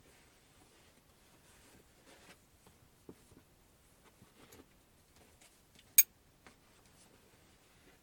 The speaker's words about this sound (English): Mm-hmm. So let's just undo this belt.